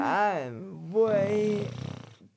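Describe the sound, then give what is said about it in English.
A person imitates an excited pig with a rising, squealing voiced wail, then a rapid rattling, snorting grunt at the end, loud and alone for about two seconds. “That was my excited pig noise.”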